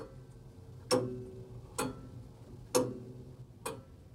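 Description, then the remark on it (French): A house clock ticks steadily, four sharp clicks spaced just under a second apart, clear over a faint low hum with no voices. “Les enfants, on ne touche pas à ça. Cette horloge, c'est l'âme de la maison.”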